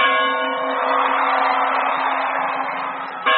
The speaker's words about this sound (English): Balangiga's iconic church bells were carted off as war booty and returned here resonating.